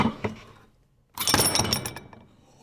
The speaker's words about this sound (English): With that hit to the floor, I mean, we're listening to the chain, but that hit to the floor, you'd immediately get it. Someone's at the door.